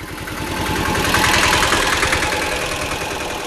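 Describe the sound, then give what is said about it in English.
Small motorcycle and three-wheeled tuk-tuk engines idle and putter at the entrance of a referral hospital in Kilifi, Kenya, where they ferry patients and their families; a steady rattling drone with rapid low pulsing that swells slightly in the middle, with no voices. “At the Kilifi Referral Hospital, motorcycles and three-wheeled tuk-tuks ferry patients and their families to the entrance for care.”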